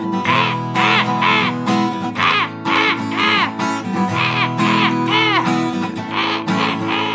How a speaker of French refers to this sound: J'entends les mouettes qui sifflent dans mon oreille.